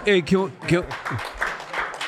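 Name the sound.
audience clapping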